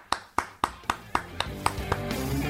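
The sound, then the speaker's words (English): A steady series of about eight sharp, crisp claps at an even pace, a round of applause for a radio show caller from Connecticut, fading slightly each time, while a low humming background swells underneath toward the end. “Let's have a round of applause for Dave from Connecticut.”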